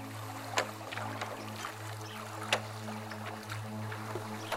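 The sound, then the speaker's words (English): Gentle water lapping against a rowing boat moving along a tree-lined stream on a bright, sunny day, with soft irregular splashes and a few sharper knocks over a steady low hum, no voices. “Close your eyes and listen to the singing birds hiding beneath the leaves and the water colliding with the boat.”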